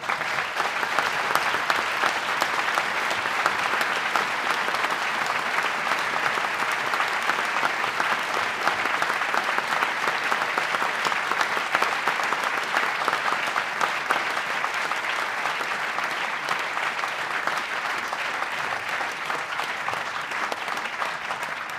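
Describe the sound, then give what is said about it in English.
Sustained, loud applause from a large audience at the end of a lecture, a dense steady wash of many hands clapping at once with no pauses, continuing for over twenty seconds without any voices. “Thank you very much, and you've been generous with your applause”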